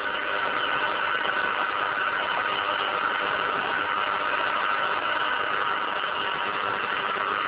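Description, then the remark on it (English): A steady, unbroken buzzing hiss from a modulated noise diode, driven at about 2 milliamps, played through a receiver while the system is adjusted to gauge its noise figure, holding an even, moderate level for the whole stretch with no voices. “Now, by definition, the louder I can get that buzz, the better the noise figure of the system.”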